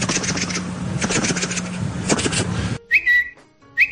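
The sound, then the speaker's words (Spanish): Rustling, scraping noise fills the first few seconds, then stops, and a person whistles a few short, high, chirpy notes in imitation of a small bird's whistle. “Se paró en una viga de madera aquí y empezó a silbar. Un silbido ahí, bonito.”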